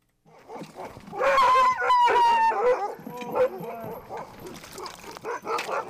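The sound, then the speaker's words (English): A chorus of many sled dogs of musher Brent Sass barking, yipping and whining at once as they are fed at 10 in the morning after a midnight training run in the White Mountains, with 38 dogs chained up. Loud, with overlapping high-pitched yelps and excited howls throughout. “It's 10 in the morning, and musher Brent Sass is feeding his dogs after a midnight training run in the White Mountains.”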